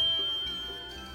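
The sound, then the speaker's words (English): A single bell chime rings out with a bright, shimmering tone that lingers and slowly fades away, heard on its own with no voices. “The listening, and repeat the words after the bell.”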